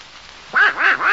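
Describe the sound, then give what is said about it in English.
A cartoonish duck voice quacks and squawks in a quick run of about three raspy, rising-and-falling bursts, loud, after a brief quiet moment, with no other talking. “What's that noise, Mickey? Oh, that's Donald Duck.”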